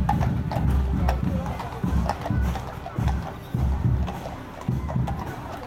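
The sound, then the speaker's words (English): Horse hooves clip-clop steadily on pavement as an old-fashioned horse-drawn carriage carrying Santa is pulled along, a regular rhythmic clatter against a low rumble of crowd noise and indistinct voices. “And Santa's in his horse-drawn carriage.”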